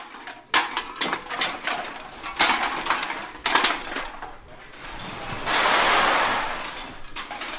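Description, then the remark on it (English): Glass bottles clink and aluminum cans clunk in a rapid, irregular clatter of sharp hits on the cavernous sorting floor of the Bangor Redemption and Discount Beverage Center on Broadway, Maine, followed by a longer rattling rush as a batch tumbles together, then more scattered knocks. “The clink of bottles and clunk of aluminum cans reverberate through the cavernous sorting floor of the Bangor Redemption and Discount Beverage Center on Broadway.”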